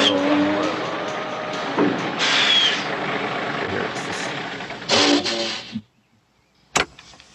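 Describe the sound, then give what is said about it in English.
A truck's engine and road noise rumble steadily on a pitch-black highway at night, swell briefly, then cut off abruptly into silence as the truck pulls over by a cliff, followed by a single sharp knock or click. “He just pulls the truck over literally on like a cliff at like pitch black dark.”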